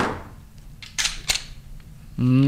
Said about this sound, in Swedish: Det där ljudet känner nog många igen. Och han som åstadkommer det med en Glockpistol,